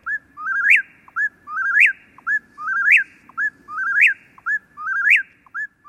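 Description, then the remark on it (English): An eastern whippoorwill, recorded in Massachusetts, sings its whistled phrase five times in a steady, rapid rhythm, each loud, clear trill of five separate notes rising and falling, with a faint low background hum. “Here's the eastern whippoorwill, recorded in Massachusetts. Each trill of the whippoorwill contains 5 separate notes, although human ears pick up just 3 of them.”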